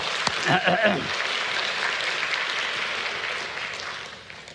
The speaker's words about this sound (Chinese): 我们为我们的诗歌敬拜的诗班啊，他们很好的掌声来感谢主，好吗？